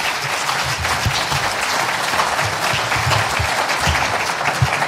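Sustained audience applause for a priest at an event of the diocese's parents' school, a dense, steady wash of many hands clapping at an even loudness throughout, with no voices standing out above it.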